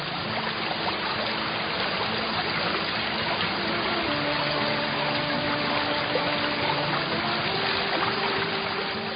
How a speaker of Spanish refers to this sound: Pasaron los días y la ninfa enamorada seguía llorando y tantas lágrimas derramó que se fue consumiendo, convertida en el agua de un pequeño riachuelo, hasta desaparecer.